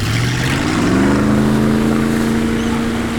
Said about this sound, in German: So, der Außenbordmotor läuft. Wichtig übrigens, dass man hier den kleinen Benzinhahn auch aufdreht. Sonst geht er nach ein paar Sekunden aus.